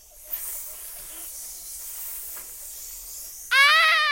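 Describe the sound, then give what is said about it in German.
Snakes hiss in a steady, airy stream for several seconds, with a faint rustle beneath, before a sudden loud, high, warbling tone cuts in at the end. “Schlangen! Schnell weg hier!”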